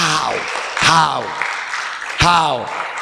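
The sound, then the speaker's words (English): A church camp crowd claps for Jesus steadily while loud voices whoop and cheer over it, with three sweeping, falling shouts rising above the continuous patter of applause. “Clap for Jesus.”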